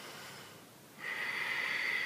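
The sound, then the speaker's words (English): Ujjayi (ocean) breathing during a yoga practice: soft, steady breathing with a hissing, airy rasp, first a quieter inhale-like rush, then a stronger, constricted exhale with a whistly tone, without speech. “Keep breathing your ujjayi breath.”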